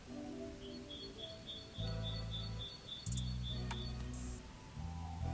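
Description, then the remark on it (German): A bird calls with a steady series of short, high chirps, faint and muffled, heard from outside through a closed window, while loud low rumbling bursts come and go in the foreground. “Mein Fenster ist zu, Digga, der Vogel ist so laut.”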